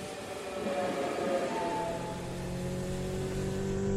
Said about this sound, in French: Cette voiture est vraiment très rapide.